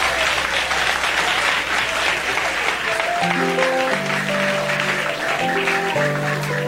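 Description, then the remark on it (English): Steady, dense audience applause, clapping again for a woman in the audience who asked a bold question, fills the whole stretch at a constant loud level, with a sustained low musical tone entering partway through beneath the clapping. “I think you should clap for her again.”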